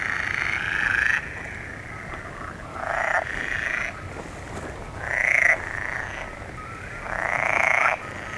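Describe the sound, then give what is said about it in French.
Frogs croaking incessantly in a dense chorus, with louder bursts rising and falling every couple of seconds over a steady background trill, without any talking. “Le croissement incessant des grenouilles.”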